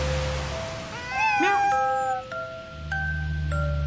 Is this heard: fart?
no